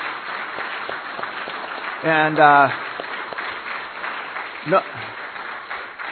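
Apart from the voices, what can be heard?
audience applause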